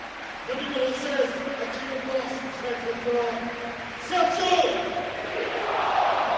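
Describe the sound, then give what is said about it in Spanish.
A stadium crowd chants Sergio Rico's name in unison with sustained, tonal voices. The whole stadium applauds him, swelling louder around the fourth second as applause and cheering rise over a steady wash of noise. “Todo el estadio unánime aplaudiendo a Sergio Rico cuando corean su nombre.”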